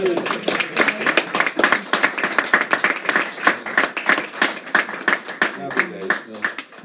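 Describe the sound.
An audience applauds steadily for several seconds, many hands clapping in a dense, crackling patter that holds fairly loud throughout, with faint voices mixed in beneath it.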